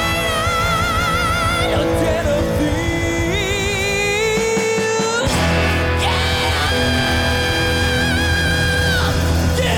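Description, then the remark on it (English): The singer playing Jesus in a rock musical lets out a long, soaring scream over loud, dense band music, the strained voice climbing in pitch, breaking briefly, then holding high again as the instruments keep driving underneath. “I just really, really love the scream that Jesus does, which is awesome.”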